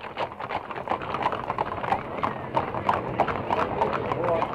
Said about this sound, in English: Further down the line are the splendid circus horses, and we hear the clatter of their hoofs on the pavement as they start for the showgrounds many blocks away.